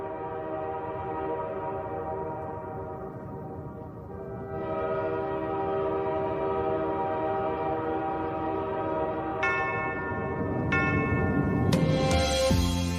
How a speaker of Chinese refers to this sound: 刚刚听到的是老式绿皮火车发动时的敲钟声，车站承载了不少的聚散离别，让人动情，让人感伤，让人流泪。